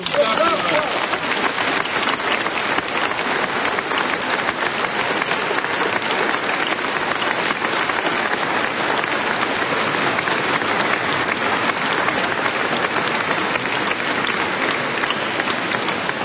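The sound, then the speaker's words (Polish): Thunderous applause from the pilgrimage crowd of the dioceses of Toruń and Pelplin, thanking the mayor of Toruń, Michał Zaleski, for his greeting: a dense, steady roar of clapping that fills the whole stretch at constant loudness without pause. “Myślę, że te wielkie, gromkie oklaski całej pielgrzymki diecezji toruńskiej i diecezji pelplińskiej te oklaski są pięknym wyrazem wdzięczności dla pana prezydenta miasta Torunia, Michała Zaleskiego, który nas teraz tak pięknie pozdrowił.”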